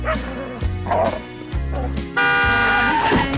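A car horn blares in one long, loud, steady honk from passing traffic in a market street that starts partway through and runs to the end, after a few short, sharp barks from a small terrier.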